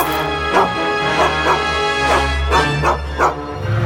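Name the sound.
dog barking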